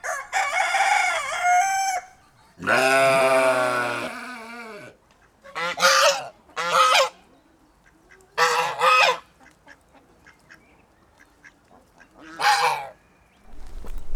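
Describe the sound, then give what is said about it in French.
Loud farmyard fowl with no talking, on a farm keeping regional and ornamental poultry breeds and a waterfowl pen: two long crowing calls from a rooster, then a handful of short, spaced goose honks sounding one after another. “une quarantaine de variétés de volailles, enfin de poules, soit de races régionales ou de races d'ornement. On a un parc de palmipèdes, des pigeons, des lapins, enfin bon, tout ce qui est animaux de la ferme en fait.”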